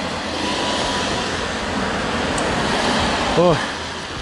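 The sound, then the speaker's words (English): Heavy rain pours down in a steady, dense hiss that fills the whole scene, with a person briefly exclaiming near the end. “it's raining heavy.”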